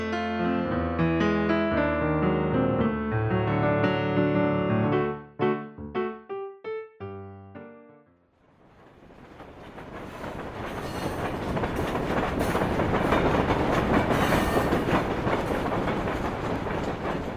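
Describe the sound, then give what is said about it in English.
A sustained harmonic chord breaks into choppy bursts, then a locomotive's broad, roaring rumble builds and holds steady as the train runs along the tracks, with no voices. “set on a cross-country locomotive journey entitled All Aboard”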